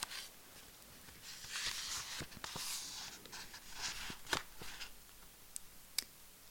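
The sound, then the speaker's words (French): Quiet, irregular clicking of keys on a computer keyboard, with soft taps scattered among a few sharper keystrokes over a low background hiss, no voices. “Il était en train de taper à l'ordinateur lorsqu'il a aperçu un cheveu sur le clavier.”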